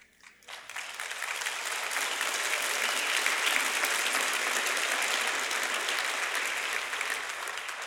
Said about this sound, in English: I don't usually get applause, so I'm going to quit while I'm ahead.